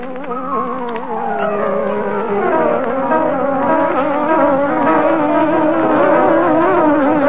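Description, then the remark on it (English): A loud, continuous buzzing drone with wavering, sliding pitch, like an angry hornet, sustained for several seconds as the opening sound effect of the radio mystery program The Green Hornet, with no talking over it. “What favorite mystery program buzzes? It comes on the air like this.”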